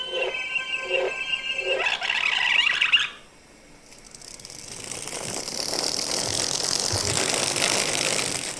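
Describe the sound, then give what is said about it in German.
A machine motor whines in short harmonic bursts, then rises into a loud, steady mechanical roar with a hissing, grinding edge that runs to the end. Nobody speaks. “Ganz schön krasser Motor da drin.”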